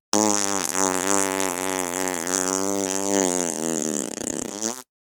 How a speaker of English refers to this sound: Yep, farts.